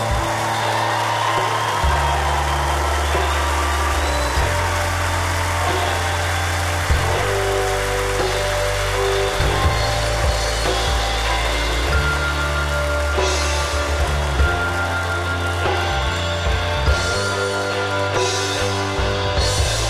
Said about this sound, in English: I don't want to ask for a moment of silence, but I want to ask a moment of noise for her. Make noise so she can hear you, please.